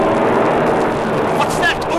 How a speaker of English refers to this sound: The planes of the aerodrome are all taking off.